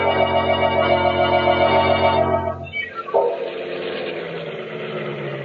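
A car engine hums steadily and loudly while driving to a garage, then its pitch drops and shifts partway through before settling into a rougher, noisier rumble of driving, with no voices.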